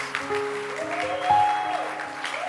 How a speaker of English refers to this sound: Clap your hands. Oh, you won't clap your hands. Clap your hands.